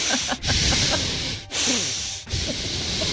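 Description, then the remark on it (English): A man imitates the heavy breathing of a man staring into a mirror, loud, hissing breaths pushed out in long rasping strokes, with brief catches between them, about three in a row and no talking. “He then goes in front of the mirror, wearing nothing but his towel, and proceeds to stare into it, breathing like this for a good 20 seconds.”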